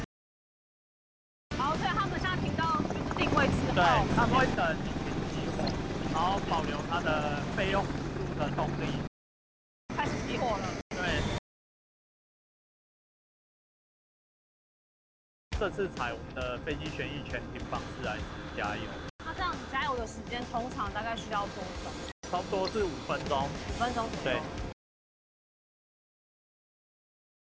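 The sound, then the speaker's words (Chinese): A military helicopter's engine runs loud with a dense, steady roar and wind-like rush, the noise stopping abruptly several times between bursts, as the engine shuts down after taxiing to its parking spot for a wartime refueling drill. “所以他们会等引擎熄火，然后保留它的备用速度的动力。开始熄火了。”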